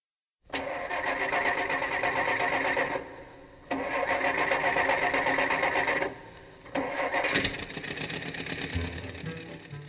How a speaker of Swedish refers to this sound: Ja, det här skulle föreställa en gammal skruttig bil och inte en Rolls Royce